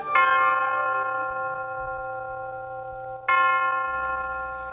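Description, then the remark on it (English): The University of Detroit Tower Chimes ring out in two clear, resonant strikes about three seconds apart, each tone lingering and slowly fading, opening a session of the radio program Ask the Professor. No one speaks. “The University of Detroit Tower Chimes ring in another session of Ask the Professor, the radio program on which you match wits with University of Detroit professors in an unrehearsed session of questions and answers.”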